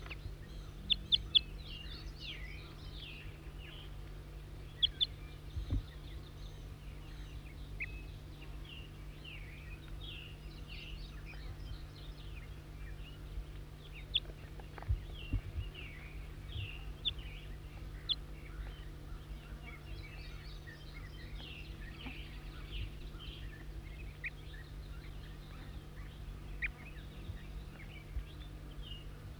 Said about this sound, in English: Wild bird.